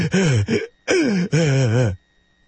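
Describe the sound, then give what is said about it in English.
A man's voice imitates gasping for breath, with several strained, groaning heaves in quick succession, loud, before falling silent. “Especially after I found out that the evil bastards who run the tobacco industries were manipulating the nicotine content to keep me hooked forever until I died, gasping for breath.”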